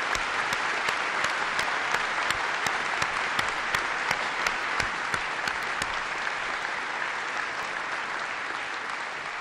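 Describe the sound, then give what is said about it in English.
Sustained audience applause for Bob Gates fills the whole stretch, a dense steady roar of many hands clapping at even loudness with scattered sharper claps standing out, and no voices heard. “He deserves your applause.”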